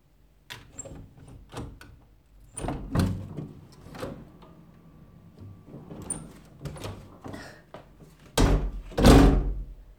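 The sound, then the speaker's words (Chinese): A door is opened: a series of clicks, knocks and latch rattles, ending in a louder swinging thud near the end. No voices. “请开门吧。”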